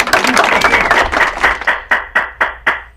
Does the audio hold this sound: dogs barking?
no